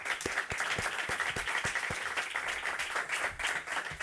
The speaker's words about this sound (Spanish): Pido primero un aplauso para su director, ya que está aquí.